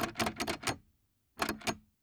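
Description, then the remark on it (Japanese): A door handle rattles in two quick bursts of metallic clattering, a brief pause between them, as someone tries to open a locked door to leave. No one speaks. “あれ、ドアが開かない。”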